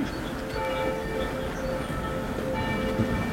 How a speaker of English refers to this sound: As church bells rang out, I held up some photos from 33 years ago of my parents' apartment.